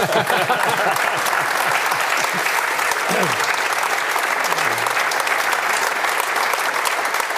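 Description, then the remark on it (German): Steady, loud audience applause fills the whole stretch, a dense rush of clapping hands with a few low voices murmuring underneath early on. “Es gibt für mich noch einen Applaus wäre jetzt angebracht.”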